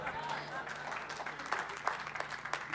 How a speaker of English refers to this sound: Some of you clapped, but some of you didn't hear me.